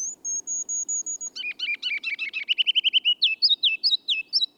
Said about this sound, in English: The ruby-crowned kinglet tunes up his spring song only in the lowlands. Later this month, he'll depart to sing and nest at mile-high altitudes in our mountain forests.